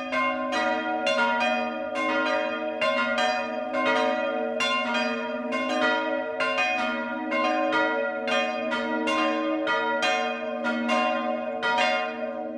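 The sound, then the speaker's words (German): Several church bells in the village of Medlitz, Bamberg district, Upper Franconia, peal together for the 12 o'clock midday chime in a steady, overlapping rhythm, their rich sustained tones ringing continuously and fairly loud, with no voices present. “Das Mittagsläuten kommt heute aus Medlitz im Landkreis Bamberg.”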